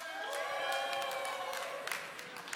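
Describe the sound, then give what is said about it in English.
An audience cheers and whoops for the Eagles on Super Bowl day, a dense mix of raised voices with some higher sustained yells and scattered claps, fairly loud and steady throughout. “I'm just curious, so how many of us will be cheering for the Eagles?”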